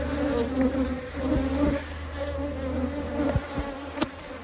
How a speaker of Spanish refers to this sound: Y este, el sonido que hacen 100.000 abejas.